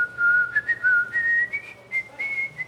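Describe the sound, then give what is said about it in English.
Someone whistles the short Old Spice advertising jingle alone, a string of clear notes stepping upward in pitch with brief breaks between phrases, steady in volume. “Here it comes. Nope, can't do it. First service, I could do it. I've lost my whistle.”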